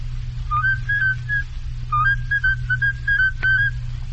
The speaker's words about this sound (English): I never took a lesson in my life. So help me, that's what he said. I never took a lesson in my life. All right, can you whistle then?